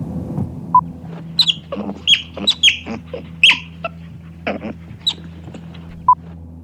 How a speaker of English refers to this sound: It's time to guess. It's the sea otter.